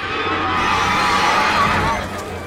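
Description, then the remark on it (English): A white horse striding down a lane near Clop Hill whinnies loudly, a sustained, wavering neigh that rises and shakes for a couple of seconds before tapering off, with no one talking. “And yet before they got there, they turned a bend and slammed on the brakes when they saw a white horse striding down the lane.”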